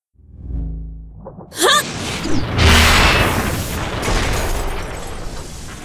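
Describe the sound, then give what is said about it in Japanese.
A low rumbling buildup gives way to a sharp, loud blast at about a second and a half as a door is blown apart, followed by a sustained roar of crashing, scattering debris that rumbles on to the end. “ドアを破壊するわよ。”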